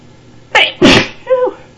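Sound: human sneeze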